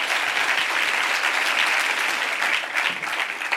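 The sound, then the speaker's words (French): An audience at an evening event in Marseille claps steadily to welcome two invited guests, Maboula Soumahoro and Nadia Yala Kisukidi, a dense, even wash of many hands that stays at full strength for a few seconds, with no voices standing out above it. “On peut applaudir.”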